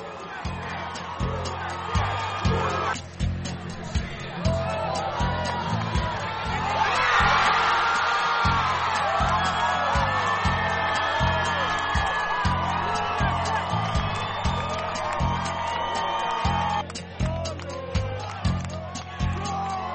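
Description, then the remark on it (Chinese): A large crowd of soccer fans at National Harbor, Maryland, cheers and whoops in celebration of the US women's team winning the World Cup, with shouting voices swelling into a loud, sustained roar midway, over a steady pounding beat underneath. “节目最后，我们将带您一起去看看马里兰国家海港球迷们庆祝美国女足赢得世界杯冠军的热闹场面。”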